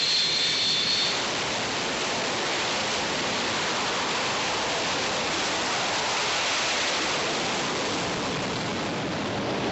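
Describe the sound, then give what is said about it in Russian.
A jet aircraft, cleared to take off into a headwind with wind at 12.7, takes off with a loud, unbroken roar of engine noise that stays steady and dense throughout, a thin high hiss showing briefly at the start. “Встречный взлет разрешаю.”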